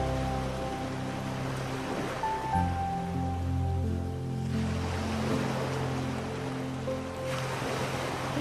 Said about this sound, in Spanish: Cierra tus ojos y siente y escucha las olas del mar.